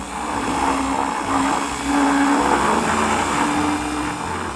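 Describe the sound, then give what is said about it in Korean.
A blender runs continuously, its loud motor whirring steadily with a low hum and slight surges as thick contents churn, blending baked sweet potato, warmed milk and a little honey for a sweet potato latte; no voices present. “믹서에 고구마와 우유, 취향에 맞게 꿀을 조금 넣어 갈아준다.”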